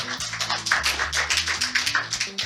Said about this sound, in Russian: Спасибо, ребят. Аплодисменты и вопросы Илье.